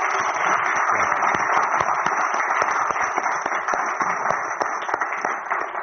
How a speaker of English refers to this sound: Let's keep the clapping going